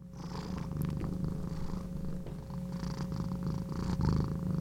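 A domestic cat named Watson purrs steadily, a continuous low rumbling drone with a soft rhythmic pulse, fairly loud and alone without any talking.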